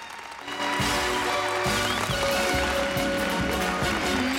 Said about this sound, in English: The cast take their bows, then Marge receives a standing ovation.